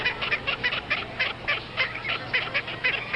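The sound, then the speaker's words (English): Baby ducks quack in a rapid, steady string of thin, high-pitched calls, roughly a dozen chirpy bursts in quick succession, moderately loud with no talking. “Those are baby ducks. Those aren't very good quacking sounds.”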